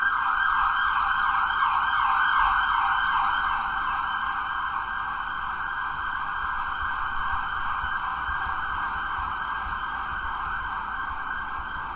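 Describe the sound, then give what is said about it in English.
An emergency vehicle siren wails steadily for the whole stretch, loud at first, then easing slightly as it moves off, with a low rumble of traffic beneath and no talking. “The siren, God's providence, do its work.”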